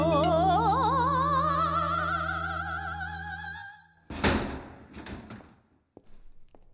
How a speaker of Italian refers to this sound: Che è successo? Si è imbizzarrita e a un certo punto ha sbattuto via la sedia o cose no, del genere.